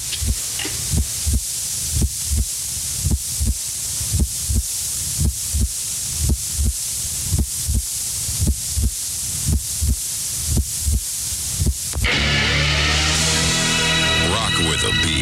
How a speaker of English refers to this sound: They were silent for about a minute. They shut off the transmitter for a few seconds and came back on for the next 23 hours with nothing except a heartbeat and a little short snippet of a song just thrown in at random every once in a while.